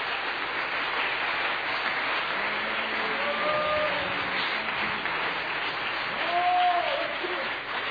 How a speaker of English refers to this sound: Why don't you clap your hands one more time to the Lord?